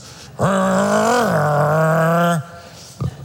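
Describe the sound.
A voice imitates a truck engine with a loud, sustained vocal rumble lasting about two seconds, pitch rising then dipping slightly, followed by a brief soft noise after it stops.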